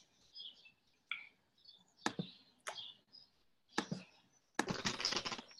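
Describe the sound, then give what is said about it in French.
Someone types on a computer keyboard during an online call: a few scattered, sharp keystrokes at first, then a quick, dense burst of clicking at the end. No one speaks. “J'entends quelqu'un taper sur son clavier.”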